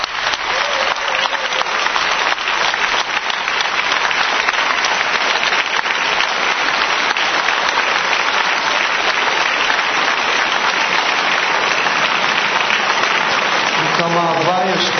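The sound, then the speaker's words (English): A large Israeli audience stands up and applauds loudly and continuously, a dense wash of clapping for the whole stretch, with a voice briefly emerging near the end. “And I'd ask the Israeli Kli to stand up and to give applause to this whole world Kli that looks as one.”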